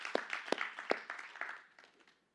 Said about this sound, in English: Come on, let's just clap our hands to the Lord.